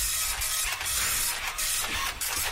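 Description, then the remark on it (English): An old, slow Amstrad computer printer grinds and buzzes steadily while printing, its harsh mechanical whirring punctuated by brief ratcheting pulses as the print head moves. Fairly loud, with no voices. “Is that an Amstrad? It sounds like an Amstrad. Yes, that's why it doesn't work properly.”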